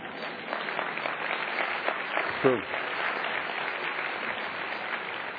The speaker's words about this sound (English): You can clap for that.